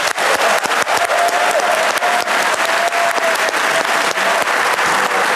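Steady, loud audience applause, a dense wash of many hands clapping continuously for several seconds, with a faint tonal hum underneath and no voices standing out.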